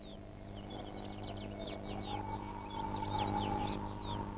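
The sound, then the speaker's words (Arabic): A dense chorus of many high, chirping seabird calls overlapping continuously from a breeding colony on Heron Island, a coral cay, over a steady low hum of background noise. “تستقر أجناس عديدة من طيور البحر وتتزاوج وترعى صغارها هنا، وعن طريق الصيد في البحر وجلب طعامها إلى الشاطئ ساعدت طيور البحر في تشكيل الجزيرة.”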